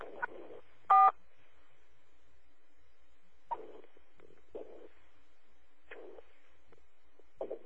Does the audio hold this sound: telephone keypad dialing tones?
yes